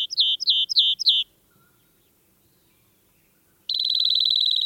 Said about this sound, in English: The ringing notes of a rock wren's song reverberate across a steep, rocky slope in the American West. The rock wren is most at home in piles of rock rubble at the foot of cliffs, a life zone known as a talus slope.